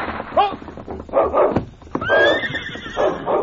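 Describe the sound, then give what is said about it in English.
A horse whinnies loudly as Sergeant Preston urges it into a faster pace, two shrill, wavering neighs a couple of seconds apart, with hoofbeats thudding underneath and a sharp crack between them. “Just as Sergeant Preston urged his horse into a faster pace, a distant rifle shot rang out.”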